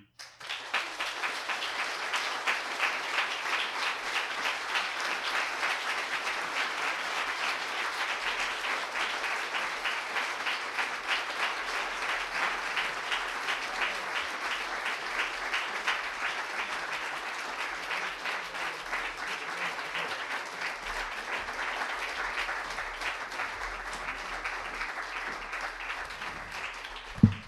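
A crowd applauds David Kirby after a reading, steadily for nearly half a minute, a dense, even wash of many hands clapping with no pauses and no voices standing out.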